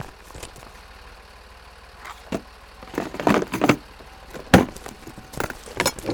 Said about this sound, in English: Quit poking at the engine. A diesel engine is fine, but you could be harnessing solar energy. You could make this more efficient.